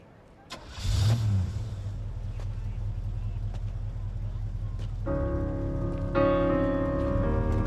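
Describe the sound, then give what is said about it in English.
A car engine cranks and catches with a short burst, then settles into a steady low rumble that carries on as the car drives away from a parking lot. Sustained tonal notes rise over the engine noise near the end. “He enters the car, and Allie watches them go.”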